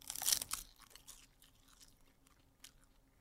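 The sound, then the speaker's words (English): One loud, sharp crunch as a sea salt flavored crispy snack is bitten, followed by softer, irregular crackling chews and a brief louder crunch near the end. No one speaks. “Take a bite out of this.”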